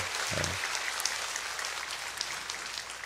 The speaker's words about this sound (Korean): 또 특별히 오늘은 수지와 분당에서 우리 찬양팀으로 귀하게 섬겨졌는데 우리 청년들이 가득 나온 걸로 그렇게 보입니다. 우리 청년들을 향하여서도 귀한 사랑의 박수 또 격려의 박수 해주세요.